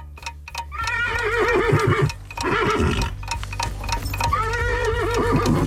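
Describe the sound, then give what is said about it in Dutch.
A cuckoo-style novelty clock in the large Radio 2 studio, from which a horse comes out instead of a bird, sounds off with a horse's whinny, loud and repeated in rising-and-falling neighs over a low steady hum and faint ticking, with no talking. “Maar dan met, er komt geen vogeltje uit, maar er komt dus een paard uit.”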